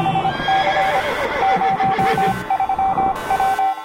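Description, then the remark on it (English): A horse whinnies loudly over the steady clatter of galloping hooves, with a bright shrill tone sounding in short repeated bursts throughout, like a produced sound effect rather than a natural recording. “I think it's time to release the horses.”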